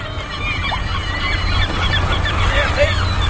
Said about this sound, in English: By the sound of this racket, you wouldn't know but what I live in a seagull colony.